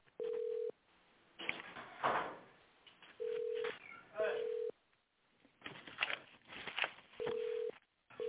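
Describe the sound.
Hold music from a participant who put a group call on hold instead of muting, over a narrow, tinny phone line: a steady mid-pitched beep tone repeats every second or two, with muffled, noisy stretches that may include faint voices in between; sirens and background noise are also heard on the line.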